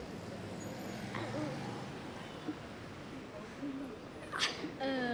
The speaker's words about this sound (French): Un autre monsieur traverse alors que les voitures veulent passer.